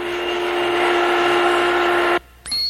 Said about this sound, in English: 1. A vacuum cleaner. A vacuum cleaner.